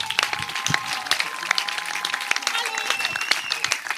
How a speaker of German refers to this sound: Dann Applaus, ihr Lieben, für unsere Dialektstube live.